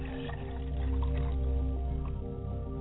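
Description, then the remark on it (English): Water pours steadily into a glass for a few seconds during a ritual honoring ancestors, a continuous liquid stream with a faint ringing tone and no talking. “And I pour a glass of water on my father's side.”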